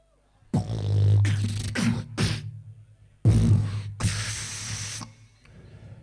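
Sparkling water fizzes and hisses in Milan in several loud bursts, a few short ones followed by a longer sustained rush, over a low steady hum.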